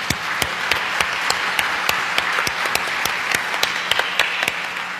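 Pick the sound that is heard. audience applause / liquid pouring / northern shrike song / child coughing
audience applause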